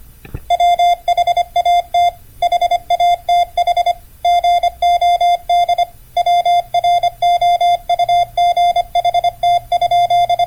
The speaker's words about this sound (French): Ce jour-là, il envoie le premier télégramme de l'histoire, un test qui consistait à transmettre la phrase « What hath God wrote ?» que l'on peut traduire par « Que nous a donné Dieu ?» en code Morse.